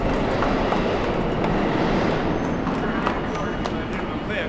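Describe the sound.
A steady, loud rumble of a subway train rolling along rails fills the whole stretch, with faint clicks and clatter riding on top and a murmur of voices mixed into the background.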